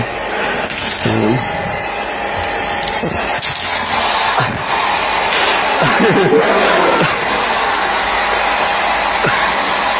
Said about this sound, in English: So this is a regular hairdryer.